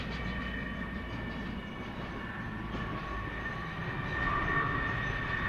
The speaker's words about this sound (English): It's bigger than a jumbo. That's a massive aeroplane. It's huge. You can put, I think, 5-6 battle tanks inside that. A couple of helicopters. You can hear it now coming over. Look at it.